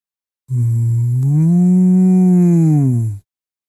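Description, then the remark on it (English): A single long, loud cow moo, deep and steady, lasting nearly three seconds before cutting off cleanly, with no talking around it. “I'm a cow.”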